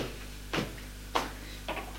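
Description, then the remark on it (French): A woman opens a door off a small corridor lined with doors, with a few short, soft clicks and knocks of the handle and latch, spaced apart over a faint steady hum, with no one speaking. “Elle ouvre une porte.”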